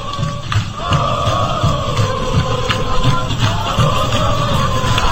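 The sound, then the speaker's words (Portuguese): A crowd of Vitória football fans cheers and chants together, celebrating the previous day's win in Fortaleza: a loud, steady wall of many voices with sustained sung tones and scattered shouts, thumps and clapping running through it. “Olha a torcida do Vitória aí comemorando a vitória de ontem lá em Fortaleza.”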